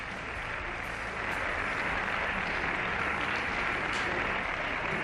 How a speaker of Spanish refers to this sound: Aplausos de... Bueno, son palabras de Albert Rivera. La intervención Albert Rivera, el líder de Ciudadanos.